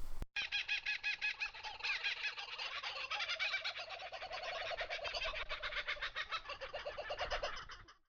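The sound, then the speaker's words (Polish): A loud, raucous chorus of screeching Australian birds, various kinds of parrots, harsh squawks and chattering calls tumbling over one another without pause for about eight seconds, with no talking. “Nowe, nieznane dla mnie australijskie dźwięki to przede wszystkim ptaki. I to nie są ptaki śpiewające, że tak powiem. To są ptaki raczej wrzeszczące.”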